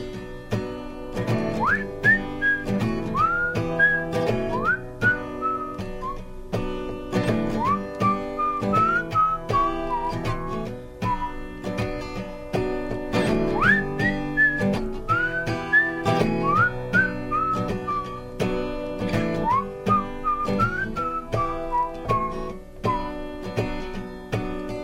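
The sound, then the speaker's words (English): A person whistles a bouncy song melody over a full band backing, the clear whistled tune rising and falling in repeated phrases, prominent throughout with no talking. “Try the whistling on the stick.”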